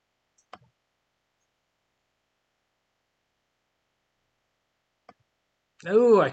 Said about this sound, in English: I keep clicking right click when I mean click left.